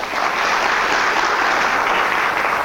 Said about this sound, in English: If you please give a round of applause